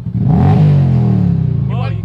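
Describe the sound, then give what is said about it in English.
A biker's motorcycle engine revs loudly at a Bikers for Trump gathering, its pitch surging and then sliding back down as it throttles off, with a brief voice near the end. “Are you revving your engine for Donald Trump?”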